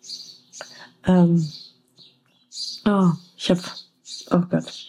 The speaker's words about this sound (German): Hinter mir brüllen sich die Vögel gerade gegenseitig an. Ich bin neugierig, ob ihr das auch hört. Abgefahren.